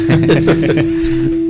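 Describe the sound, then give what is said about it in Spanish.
A steady low buzzing hum of a mobile phone vibrating on a surface runs underneath people talking for the whole moment. “quién le está vibrando el móvil aquí?”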